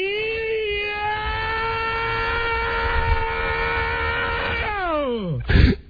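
A man lets out a long, loud, strained wail of pain, holding one high pitch for several seconds before it slides steeply downward and ends in a short rough burst.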